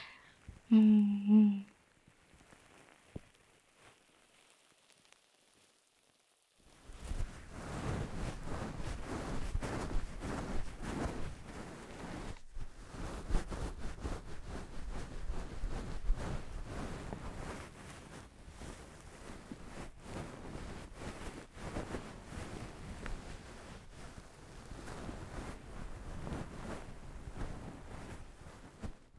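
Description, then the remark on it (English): After a brief voice and a few seconds of quiet, continuous scratchy rubbing of fabric starts and keeps going steadily as a towel is worked vigorously to dry someone off. “Oh, come on, you just used the towel.”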